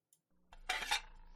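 dishes and cutlery clinking

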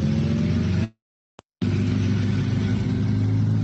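car engine accelerating

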